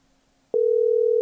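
A telephone ringing tone on an outgoing call: after a brief near-silence, a steady, clear electronic beep starts midway and holds unbroken to the end, loud, with no voices.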